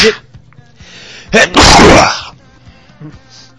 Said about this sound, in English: Gesundheit. Here, let me get you a Kleenex.